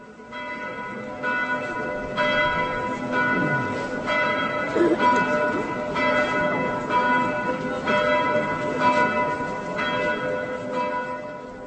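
A large church bell, the Sunday bell called the Dominikal (Dominikus) and decorated with a relief of Saint Dominic, tolls steadily, struck roughly once a second, each stroke blending into a rich, lingering ring that fills the space without pause; no voices are heard.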